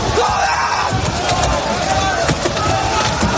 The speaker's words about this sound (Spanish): La representante israelí no ha dejado de recibir abucheos durante los ensayos